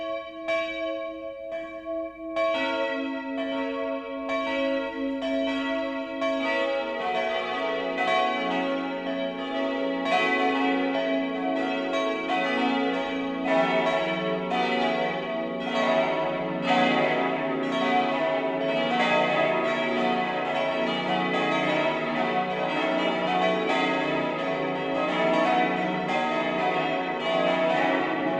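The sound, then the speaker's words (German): The noon peal of the Catholic parish church St. Heinrich in Bamberg, Upper Franconia, Germany, starting with a single bell and building as more of its eight bells join into a dense, continuous, resonant clangor without any voices. “Das Mittagsläuten kommt heute von der katholischen Pfarrkirche St. Heinrich im oberfränkischen Bamberg.”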